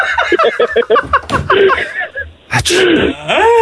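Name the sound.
sneeze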